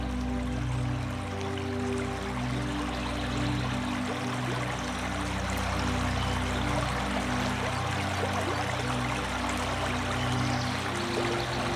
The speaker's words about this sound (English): And now, let's bring in the soothing sound of the Irish River.